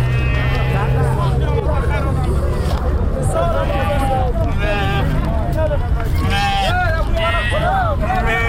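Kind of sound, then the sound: animal, sheep bleating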